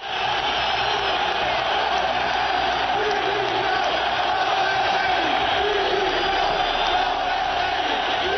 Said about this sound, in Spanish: Bronca y gritos de Lopetegui dimisión.